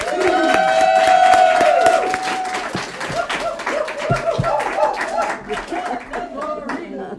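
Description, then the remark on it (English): An audience applauds a speaker being introduced, with dense, steady clapping, mixed with whoops and cheers that are loudest in the first couple of seconds before the clapping carries on a little softer. “go right ahead, honey, and start your applaud.”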